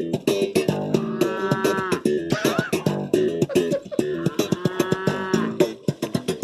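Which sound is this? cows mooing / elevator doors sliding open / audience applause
cows mooing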